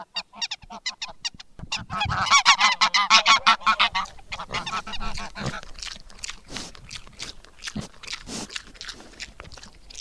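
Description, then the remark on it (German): A flock of geese on a farm honks loudly during feeding time, a dense, overlapping burst of harsh, rhythmic calls that builds and then continues more sporadically, with farmyard background noise. “Jetzt habt ihr gerade Gänse gehört.”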